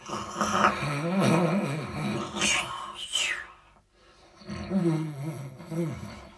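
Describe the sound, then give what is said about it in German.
A voice imitates the loud, growling snoring of the sated, sleeping wolf from Rotkäppchen (Little Red Riding Hood): a long rumbling snore ending in a breathy hiss, a brief pause, then a second drawn-out snore. “Nun war der Wolf satt, schlief sofort ein und schnarchte bald, dass die Wände zitterten.”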